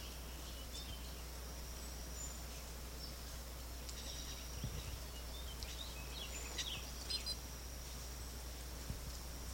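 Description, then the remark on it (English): Faint, scattered chirps of a wild green-backed bird come and go over a steady, high-pitched insect-like drone and low background hum. The calls are short and irregular, and no one speaks. “Wildbird, green-backed bird.”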